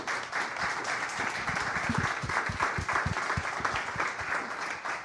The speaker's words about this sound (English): But I just wanted to thank all of our presenters here tonight, all of our guests on the show. Could we give a huge round of applause to our awesome guests here?